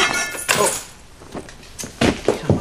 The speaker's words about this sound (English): In his apartment, Popper drops his keys.